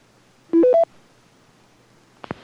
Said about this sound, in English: touch tone pad test. 1, 2, 3. The 850's audio delay line mutes your squelch tails and touch tone commands through your repeater.